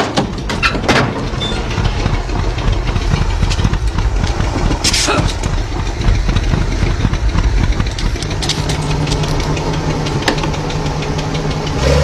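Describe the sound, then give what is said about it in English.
A car engine, being worked on to get it running properly, runs steadily for the whole stretch, a dense low rumble with a rapid knocking pulse, a few sharp clicks, and a steadier hum emerging toward the end. “All right, let's stop the car. Let's get this thing running properly.”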